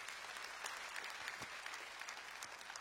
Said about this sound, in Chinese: 如果这也是你的信仰，我们拍手来赞美我们的神，哈利路亚。